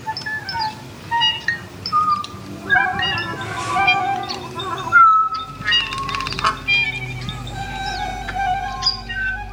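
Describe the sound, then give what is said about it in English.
A bird whistles and chirps in quick, bright bursts over sustained instrumental tones, its calls weaving through the music at a steady level with no one talking. “I think she gets mesmerized by the whole situation, and she hears the instruments playing, and she hears herself playing, and she's thinking, maybe I should just be listening.”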